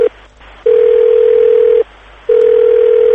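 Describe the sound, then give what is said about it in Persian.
A telephone line tone as a phone call is placed to reach people for a radio report: a steady, single mid-pitched hum that sounds in long, loud pulses separated by brief silent gaps, with no voices. “واسه گزارش امروز من میخوام تلفنی به چند نفر زنگ بزنم و راجع به موضوع امروزمون باهاشون حرف بزنم.”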